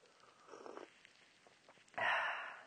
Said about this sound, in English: That noise. Don't worry about it. It's okay. It's just me sipping my green tea.